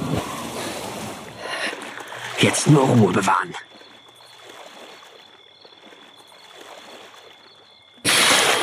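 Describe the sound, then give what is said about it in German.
A brief splash and swirl of water as a person in underpants slides into a swimming pool, followed by quieter lapping, with a person speaking before and after. “Dieser zog sich bis auf die Unterhose aus und ließ sich ins Wasser gleiten.”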